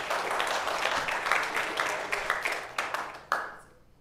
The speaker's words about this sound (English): Can we give the Lord a hand clap of praise this morning? How about we give the moms a hand clap of praise this morning?